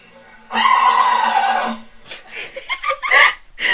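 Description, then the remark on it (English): A fluffy Pomeranian puppy named Rooks lets out one loud, drawn-out sneeze lasting over a second, with a raspy, whinny-like tone, followed by someone talking. “And basically, it's a Rooks, the Pomeranian, a really cute fluffy puppy, does an epic sneeze.”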